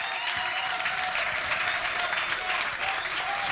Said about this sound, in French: Je demande de l'applaudir très fort, s'il vous plaît, Milano Royal.